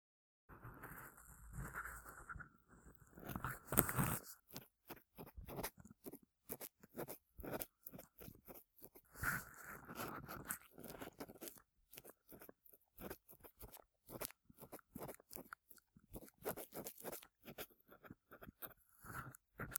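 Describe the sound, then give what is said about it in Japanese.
Crisp crackling and scraping with dense irregular rustles and small snips: large, thin earwax being peeled from the wall inside an ear in ASMR, a sound likened to peeling off a scab, continuing throughout with no voice. “かさぶたを剥がすときのような音。耳の中で壁紙とかしと大きく薄い耳垢を剥がしていく。”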